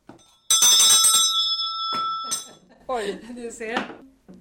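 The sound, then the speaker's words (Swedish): A loud school break bell standing on a teacher's desk from Tomteboda, at the Synskadades museum, is struck twice, each strike ringing out with bright, sustained metallic tones that slowly fade. Afterward a person talks briefly. “Katedern, den är från Tomteboda, och du ser ringklockan som står på katedern där också. Det var den man ringde i. Det var rastklockan.”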